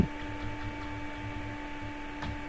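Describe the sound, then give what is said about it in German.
A vacuum cleaner drones steadily in the background, a faint, continuous motorized hum with a slight whine and soft low pulsing, and no one speaking. “Der Staubsauger Also, im Hintergrund.”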